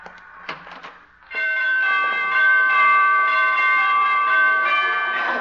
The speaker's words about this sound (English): She must have borrowed those door chimes from Carmen Miranda.